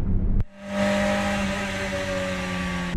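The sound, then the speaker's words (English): A steady hum of a car driving, with a constant engine drone and broad road noise, holding evenly after a brief dip at the start. “It sees, oh my gosh, the car knows exactly where the person ahead of me is in the lane.”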